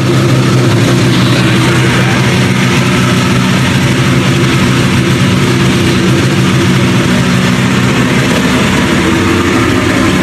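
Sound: car engine revving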